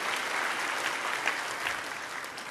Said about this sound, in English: I feel like you want to applaud. Just get it out. Let it out. There you go.